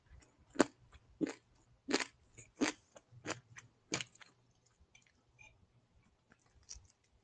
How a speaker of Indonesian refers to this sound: Aku makan.